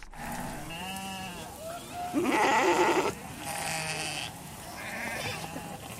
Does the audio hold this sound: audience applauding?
no